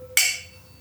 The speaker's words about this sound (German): Lass uns erstmal anstoßen, einen Schluck nehmen und dann erzählen wir erstmal, was wir trinken.